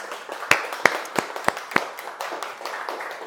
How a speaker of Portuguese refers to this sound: Pode aplaudir ao Senhor Jesus.